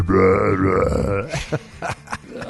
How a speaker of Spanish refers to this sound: sí me dijo alguna vez un gastroenterólogo que no es buena idea estar eructe y eructe lo más duro que puedas porque los esfínteres del intestino y el estómago se van aguadando como resorte de calzón. Entonces se aflojan de tanto que lo estás forzando.